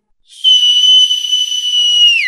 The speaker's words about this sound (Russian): Услышал младший свист и понесся, как заяц.